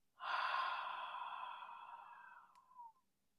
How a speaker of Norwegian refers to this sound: Og så gjør vi det en siste gang. Pust godt inn gjennom nesa. Og ut gjennom munnen.